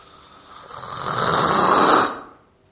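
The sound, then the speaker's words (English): A voice imitates a single long snore, a rasping, buzzy inhale that swells louder over about two seconds and then cuts off, with no other talk, portraying the disciples sleeping while Jesus prayed. “Were there anyone snoring?”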